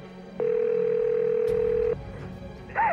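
A single steady electronic ring tone on a phone line as a 911 operator calls back, lasting about a second and a half, followed by a faint hum of the open line and a brief sound at the end.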